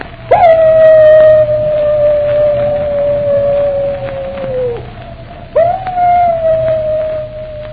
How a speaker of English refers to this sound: Captain Drummond, that howl is... It's the wolf dog. Moran's dog.